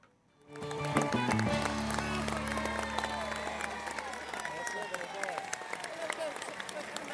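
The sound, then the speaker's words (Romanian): A group breaks into steady, dense applause for a mother that starts abruptly and keeps going for several seconds, with a low sustained hum underneath at first and some murmuring voices mixed in. “Aplauze pentru mămica.”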